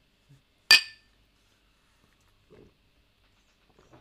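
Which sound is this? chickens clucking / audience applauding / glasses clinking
glasses clinking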